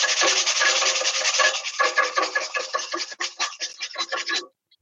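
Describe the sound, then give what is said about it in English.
A piece of sandpaper rasps steadily on a small, round, very rusty metal barbecue, producing fine dust, in a dense, hissy scrub that breaks into quicker separate strokes, then stops abruptly, followed by a short pause and a brief final scrape. No voices. “And just a piece of sandpaper, which I've picked out of the shed. And I'm just sanding to produce a nice, fine dust, basically.”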